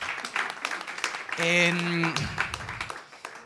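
An audience applauds in a steady patter of many hands clapping, with a brief sustained vocal whoop rising over it midway before the clapping thins out.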